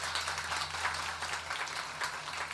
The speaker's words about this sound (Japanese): もう一度拍手お願いします。